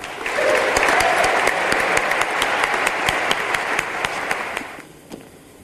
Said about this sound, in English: I would like to welcome our keynote speaker for tonight. Please give a rousing round of applause to Dr. Gushee.